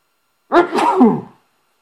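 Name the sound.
sneezing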